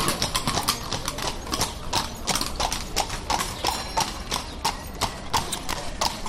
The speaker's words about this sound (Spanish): Los coches de caballos, un símbolo de esta ciudad. Justo en este lugar hemos conocido a Lola, una yegua de 12 años que hacía demasiado ruido.